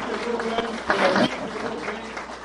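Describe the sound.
An audience applauds with a steady, dense crackle of many hands clapping, swelling briefly louder around the middle, with murmuring voices mixed underneath.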